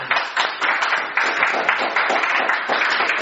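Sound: audience applauding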